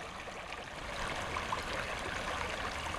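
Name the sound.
small brook flowing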